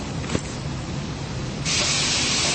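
A chamber fills with water to equalize pressure before departure: a steady rush pours in with a broad hissing roar, a brief clank early on, then the surge grows louder and brighter partway through and holds there.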